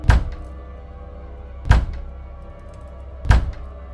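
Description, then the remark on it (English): Large, powerful hands bang on a door: three heavy, booming thuds, spaced evenly about a second and a half apart, each landing with a deep low-end impact and a short ringing decay. “Large, powerful hands banged on my door.”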